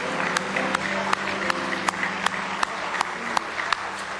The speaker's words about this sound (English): Give Him a real good hand clap of praise if you love Him tonight.